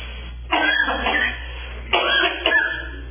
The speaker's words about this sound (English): Now, I'm out of breath and time. I'm trying to cough here, so I'm out of breath.